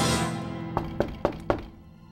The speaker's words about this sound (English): Then there was a polite knock on the door.